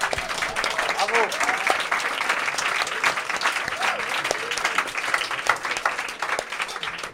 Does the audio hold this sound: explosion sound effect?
no